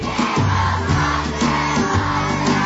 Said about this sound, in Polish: Dzieciaki, umiecie krzyknąć? Krzyknijcie. To teraz tak głośno